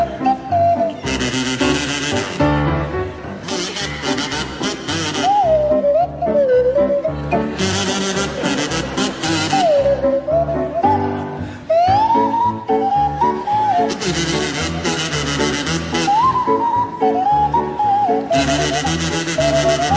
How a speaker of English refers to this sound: a rendition of Thank You Very Much to feature Barry Cryer on the kazoo and Graham Garden on the Swanee whistle